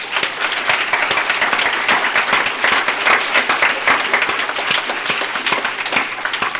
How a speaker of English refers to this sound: This is the only place you'll ever be when they're going to clap for you when you tell them you're drunk, I'll tell you that, you know.